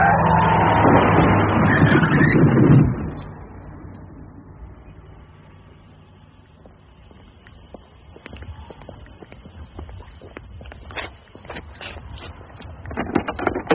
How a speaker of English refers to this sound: There's a car. No, a lorry. Oh, it's heading straight for it.